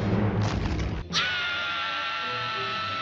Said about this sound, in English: remember how you guys said that there was no SpongeBob scream or Squidward scream? You were wrong. There is one.